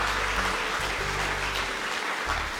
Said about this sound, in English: Come on, let's give those people a massive round of applause. So good.